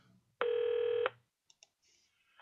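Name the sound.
telephone dialing tones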